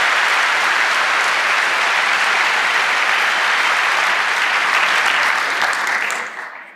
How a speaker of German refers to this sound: Ein großer Applaus